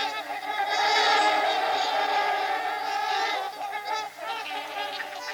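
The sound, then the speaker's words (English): Trumpeter swans calling loudly and almost continuously, a dense chorus of nasal, horn-like honks overlapping one another, with no talking. “This would serve the same purpose exactly as the incredibly long, coiled trachea of the trumpeter swan.”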